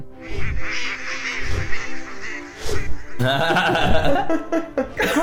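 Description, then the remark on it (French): A person mimics a honking goose call with their voice, a string of loud, nasal, quacking cries repeated in bursts, with no other sounds around it. “Soudain, il y a une espèce de cri qui vient d'au-dessus de vos têtes.”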